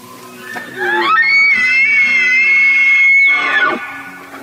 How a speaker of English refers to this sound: With luck, you may get to hear a low whistle that rises several octaves and ends in a deep growl. It's a sound you'll never forget.